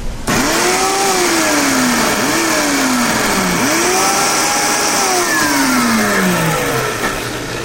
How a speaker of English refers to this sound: All right, so we've got these nice and seeded, and we're going to puree this. And if you want to, you could add a little bit of water to get the engine going. So we'll just put a little splash in here. And we're going to whiz it around.